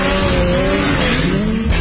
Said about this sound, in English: then you know the pure feeling that comes with it. The unparalleled power of a Rotax engine. The agility and ultimate freedom only the revolutionary Rev Gen 4 platform can give. That feeling of taking winter and shredding it for all it's worth.